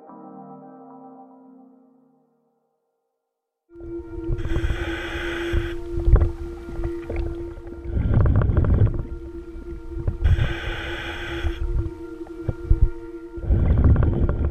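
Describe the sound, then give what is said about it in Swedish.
A muffled underwater recording of a police diver swimming in dark, murky brown water lit by his flashlight: a steady low hum and rumble, broken every few seconds by loud bursts of hissing, bubbling exhalations, with no talking. “Det här är en ljudupptagning från en av polisens dykare. Han simmar i ett brungrumligt vatten.”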